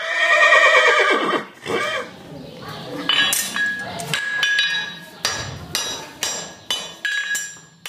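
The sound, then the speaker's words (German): A horse lets out a loud whinny that trails off, followed by a steady series of sharp metallic hammer clanks ringing out, like iron being struck on an anvil, as the horse is being shod. “Hufe, Hammer, Steckenpferd. Hier dreht sich alles um das Pferd.”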